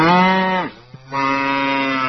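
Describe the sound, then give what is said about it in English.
A 650-pound cow that had fallen into a backyard swimming pool in South Carolina moos loudly, two drawn-out lowing calls separated by a brief pause, the first sagging in pitch as it fades out. No voices, nothing else around it. “A South Carolina woman who heard a giant splash in her backyard discovered a 650-pound cow had fallen into her swimming pool.”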